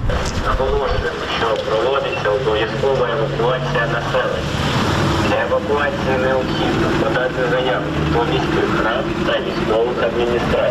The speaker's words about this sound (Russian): По улицам города ездит полицейская машина и призывает эвакуироваться.